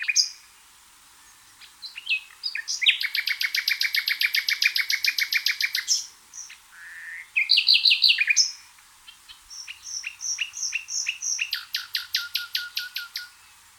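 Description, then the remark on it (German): A nightingale sings alone, pouring out varied phrases: fast repeated whistled notes, buzzy rattling trills and sharp chirps, separated by brief pauses. “Bei einem Citizen Science Projekt des Naturkundemuseums Berlins wurden verschiedene Nachtigallstimmen untersucht und man hat festgestellt, dass die bayerischen Nachtigallen anders singen als die berlinerischen zum Beispiel.”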